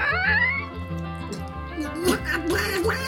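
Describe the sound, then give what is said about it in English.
A voice imitates a duck, giving nasal, rising quacks over a steady background of low, rhythmic music that plays throughout. “Quack, quack, called the little red hen.”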